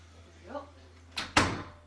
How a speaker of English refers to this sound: I forgot that I have Skype credits, so let me first close my door so that I'm not interrupted.